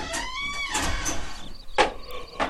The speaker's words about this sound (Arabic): هيا يا عزيزتي ادخلي، أنا سأغلق الباب، تفضلي.